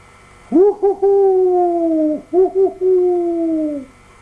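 An owl hoots in two clear phrases, each a pair of quick short hoots followed by one long, drawn-out hoot that slowly falls. No one speaks.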